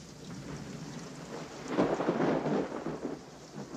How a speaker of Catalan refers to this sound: Doncs bé, amb aquest so de fons de la pluja, els trets i els morts a dojo, Sense perdó és un prodigi de tècnica narrativa